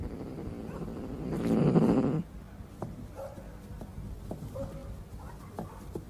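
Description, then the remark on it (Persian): A voice imitates a cat's purr: a low, raspy rumble lasting about a second, loud and close, followed by quieter room noise and faint clicks. “من خورخور میکنم و دماغم رو میمالم.”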